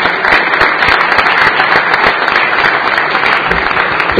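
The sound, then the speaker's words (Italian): Sustained audience applause for young scouts and representatives of football, school and youth groups, a dense, steady wash of many hands clapping at an even loudness throughout, with no voices standing out above it. “Quindi io direi che la prima cosa da fare è un applauso a questi giovani scout, rappresentanti”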